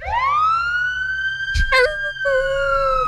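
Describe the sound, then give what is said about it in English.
A loud emergency vehicle siren rises and holds a steady wailing tone, briefly interrupted by a sharp burst of noise before the tone resumes. “Then run, then wag his tail every time he heard a siren.”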